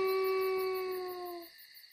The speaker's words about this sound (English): The wolf followed him for a while. Then he sat down and howled. It was a sad howl.